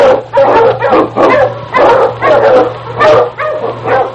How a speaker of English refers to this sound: The Wonder Dog King, swiftest and strongest of Eskimo lead dogs, blazes the trail through storm and snow for Sergeant Preston as he meets the Challenge of the Yukon.